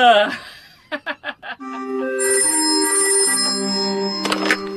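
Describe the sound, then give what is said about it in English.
A telephone rings in four quick, close bursts, followed by a sustained, bright electronic tone that holds steady before cutting off. A short vocal sound comes just before the ringing. “Your phone's working.”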